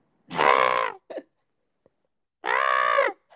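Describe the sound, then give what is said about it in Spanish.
Two loud, hoarse screams from a Korean water deer, each lasting under a second and separated by a pause, with a short raspy grunt after the first call. No one speaks. “Entonces dice, por eso es que los gritos que parecían de ciervo eran extraños.”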